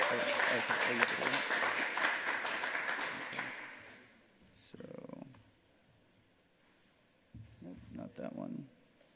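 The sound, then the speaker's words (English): An audience at an early-morning lightning talk session applauds a presenter for about four seconds, dense scattered clapping that fades out, followed by quieter background noise and a few brief bursts of voices. “So give him a round of applause for doing that early this morning.”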